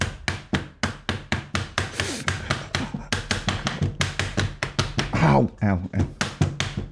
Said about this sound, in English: Was that you like banging something on your desk? Yeah, well, what I did was I put my hand on the table and put my fingers apart, and I was running a piece of charcoal in between them very quickly